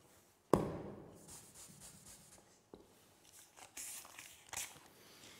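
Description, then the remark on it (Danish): A sharp crackle opens into dry crinkling and rubbing of a crumpled, dirty 100-krone paper banknote, with scattered louder crunches and soft scraping in between. No one speaks. “Det er en 100-kroneseddel. Den er krøllet. Den er beskidt.”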